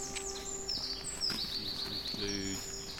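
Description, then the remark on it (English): Several birds sing and chirp in a steady outdoor chorus in a park, with bright, high trills and whistles overlapping; species include carrion crow, jay, magpie, blackbird, song thrush, robin, dunnock, blue tit, great tit and long-tailed tit. A faint murmur of voices or a low hum sits in the background. “Carrying crow, jay, magpie, blackbird, song thrush, robin, dunnock, blue tit, great tit, long tail tit.”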